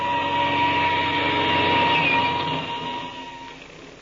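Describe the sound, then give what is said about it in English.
An airplane engine starts up for takeoff, roaring loudly and steadily with a droning, humming tone, sustained, easing off slightly toward the end. No one speaks. “I'll start the engine. We'll take off.”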